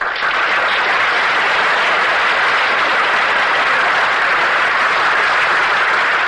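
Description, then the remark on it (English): A crowd applauds steadily, a dense, loud wash of clapping hands that holds at an even level for about six seconds without any voices, for Madeline Carroll, introduced as the star of the evening. “Ladies and gentlemen, I know that you will join in my wish that the applause you have just given be transferred to the woman who rightfully deserves it.”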